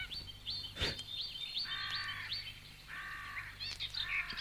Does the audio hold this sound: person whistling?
no